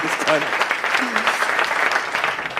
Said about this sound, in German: dein Applaus. Dankeschön.